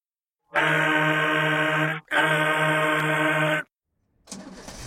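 Two long, loud blasts from a truck air horn, sounded by pulling it down, a deep, brassy tone held about a second and a half each with a brief gap between, followed by a short hiss of air.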